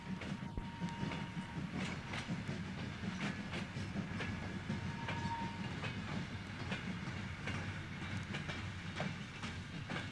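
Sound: train running on rails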